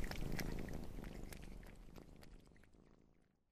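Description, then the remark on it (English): Steady purring from four hungry kittens with small clicking, crunching sounds as they eat dog food, gradually fading toward the end. No one speaks. “Mr. Fraser, cats don't eat dog food. I know, Charlie, but these cats are very hungry.”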